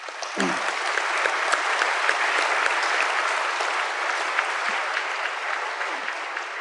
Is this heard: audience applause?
yes